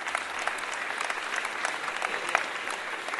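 Steady applause from a crowd, a dense wash of many hands clapping at even loudness for a few seconds, with no voices standing out.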